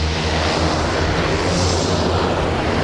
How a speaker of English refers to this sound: But by mid-morning, the sun had burned through the haze and he was able to set the King Air 300 down on the snow-packed runway.